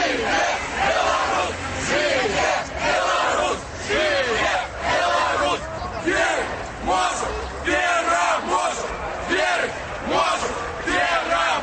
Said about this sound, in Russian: Колона демонстрантов на скрижовании проспекту Незалежности и улицы Ленина вышла на проездную частку проспекту, супрацовники ДАИ утворили живый ланцуг и почали вытискать людей на ходники. Люди почали скандовать.